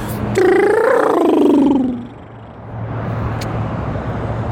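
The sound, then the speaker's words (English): A person vocally imitates a car passing by with a Doppler effect, a buzzy, loud hum that slides downward in pitch over about a second and a half, then gives way to steady low background rumble. “Can make grunt noises as they go by with the Doppler effect.”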